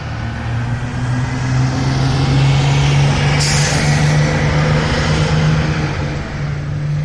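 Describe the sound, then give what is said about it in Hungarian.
A bus engine idles with a loud, steady low rumble, and about halfway through a sharp hiss of air brakes releases. No voices are heard. “Egy fiatalember egymagában ült az autóbuszon.”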